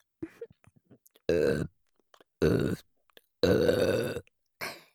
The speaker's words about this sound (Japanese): それじゃあ今聞いてくれているみんなはちゃんとチンポしこれるいい子だから、ご褒美の連続ゲップです。